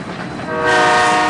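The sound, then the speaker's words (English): A train travelling to Spain rumbles along the tracks, growing louder as a sustained horn blares partway through, loud, with no voices. “They take a train to Spain.”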